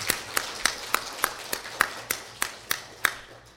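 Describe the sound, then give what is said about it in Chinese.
Applause in a steady, even rhythm, about a dozen distinct claps over a few seconds, moderately loud and slightly reverberant, with no voices over it; a gathering applauding warmly to welcome a woman back. “我们给她这样的热烈的鼓掌”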